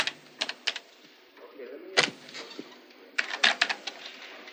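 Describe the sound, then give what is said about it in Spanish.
Keys of an office computer keyboard tapped one at a time with a pencil's eraser end to enter a personal code for a bank transfer: short, dull clicks arriving in small irregular bursts with pauses between, fairly quiet. “lo escribe pulsando el teclado con la punta de goma de un lápiz.”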